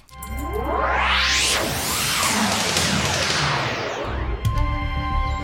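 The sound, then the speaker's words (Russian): A loud, whistling whoosh of an arrow flying right past one's ear in a castle courtyard in Sweden, its pitch sweeping up and then down over several seconds, with a rumbling background and a brief knock near the end. “О, стрела прямо возле уха просвистела.”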